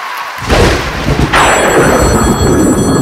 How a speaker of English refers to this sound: What's that? A phone ringing at this hour? Do you answer it or just let it ring?